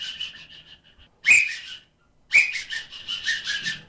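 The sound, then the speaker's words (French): A goat bell rings out in bright, jangling metallic clanks: faint tinkling at first, then two strong shakes, each leaving a shimmering high-pitched ring that trails off. No voices. “Et maintenant, je prends une cloche de chèvre.”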